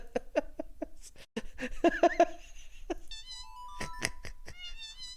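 Short cat meows, pitched and edited into a quick rhythmic tune, play in a bouncy sequence, followed by higher synth-like tones and a few more meow bursts near the end.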